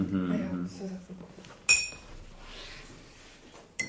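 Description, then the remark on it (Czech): A teaspoon gives one sharp, bright metallic clink with a short ringing tail, then a fainter tap near the end, following a brief stretch of muffled talking. “Tam je tuhle lžičku, protože mě teď spadla na schody.”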